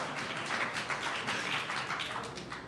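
A short burst of polite, half-hearted applause from an audience, a steady patter of scattered claps with no standout cheers, fading slightly at the end.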